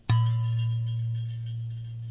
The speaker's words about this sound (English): No, that's not scrubbing dishes in the studio. That's my sustainable water bottle, Brother Deacon Asa. And when it's got water in it, it makes a really cool gong sound, too.